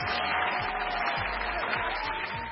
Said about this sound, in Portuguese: Eu bem disse que iam haver muitas palmas esta semana.